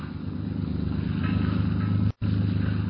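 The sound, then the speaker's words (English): A motorboat engine drones steadily as the boat is steered out to sea at night in fog, about 2 miles offshore, a continuous low throbbing hum with a rough, washing noise layered over it, broken by one abrupt split-second dropout near the end. “Turk steers the motorcraft out to sea.”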